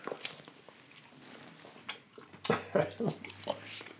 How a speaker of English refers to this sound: This is the money shot when people get to hear us chewing. Right. That's what they tune in for.